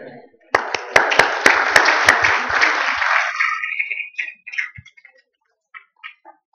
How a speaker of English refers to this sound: Thank you. That's awesome. Get a little another hand clap of praise to our Heavenly Father.